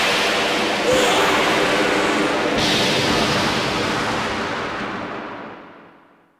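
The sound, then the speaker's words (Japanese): A loud, roaring blast of magical heavenly lightning and explosion, commanded by the Magic Emperor to destroy everything, with sharp cracks near the start and middle, a dense rumbling wash of noise, then a long fade over several seconds. No voices. “天界の雷よ、すべてを滅ぼせ。”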